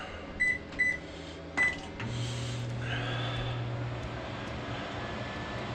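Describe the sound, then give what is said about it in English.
Three short electronic beeps, then a huge LG microwave oven kicks on for a one-minute run with a steady, low droning hum that continues evenly to the end. No one speaks. “And we're gonna see if we push this guy over the top by using this huge LG microwave.”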